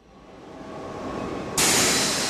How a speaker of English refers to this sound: Welcome aboard the high-speed train known as Thalys. It connects Paris to Brussels and Amsterdam.